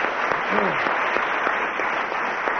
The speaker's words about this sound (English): So that's, I mean, our audience here realise that that's a fairly significant moment in this, not only in the programme, but in the entire 13-year series. Yes, indeed. So let's have another round of applause for Tim Keller and Willie Rushton.